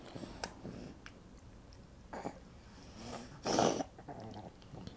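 heavy breathing

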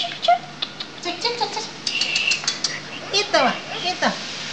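bird singing

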